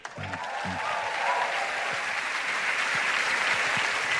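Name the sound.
audience clapping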